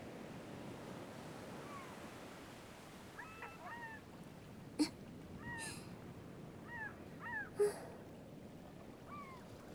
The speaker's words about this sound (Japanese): あ、でも。海猫の鳴き声が好きなのはひょっとしたら私だけかも。前に好きだって言った時はみんなふーんって感じの反応だったから。